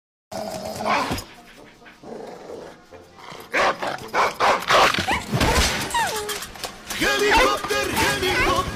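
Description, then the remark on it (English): A dog barks and growls in repeated bursts, loud, with snarling between the barks and voices mixed in at times. “Número 4. Scary Dog.”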